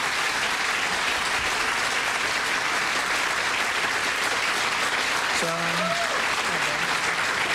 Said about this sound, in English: The crowd's going wild.